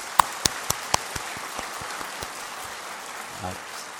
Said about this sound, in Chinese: 那我是让各位弟兄姊妹确实知道他们是我们主内弟兄姊妹，我们鼓掌荣耀归给神。